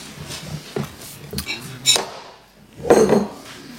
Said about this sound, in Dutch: Dat is de hamerklap. De hamerslag van 24 april 2018. De raadsvergadering van de gemeente Haarlemmerliede en Spaarnwoude.